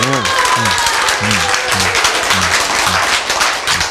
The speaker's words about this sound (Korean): 네. 아시겠죠? 박수. 네.